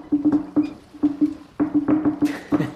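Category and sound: household object, knocking on a door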